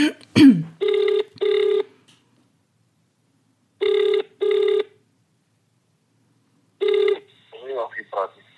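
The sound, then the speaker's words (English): The ringing tone of an outgoing phone call placed from the UK sounds in steady double pulses, three rounds with long gaps between, clear and fairly loud, before a brief voice answers as the last ring cuts off. “Oh my gosh, it's ringing.”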